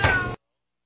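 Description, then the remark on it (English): A single loud, strained yowl from a cat named Fluffy in a tumble dryer, high and harmonic, lasts about a third of a second before cutting off abruptly into silence. “Almost as much fun as watching Fluffy in the dryer.”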